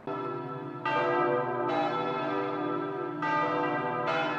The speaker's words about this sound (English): After 16 years of conservative Angela Merkel, the bells were signalling a change of German leadership.